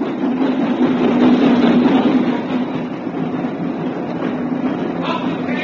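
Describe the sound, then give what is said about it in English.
A boat train rumbles steadily as it pulls into a station, a loud continuous roar with a low droning hum that eases off slightly as it slows. “At lunchtime, he was sipping an old and mild in the platform buffet when the boat train pulled into the station.”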